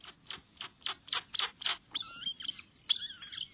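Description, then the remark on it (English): A groove-billed ani gives a quick series of about seven sharp, high pips, then slurred, wavering whistles and squeaky notes, moderately loud with no one talking. “The Ani's large, flattened bill spits out these sharp, high whistles, slurred whinings, and various squeaks, pips, and growls.”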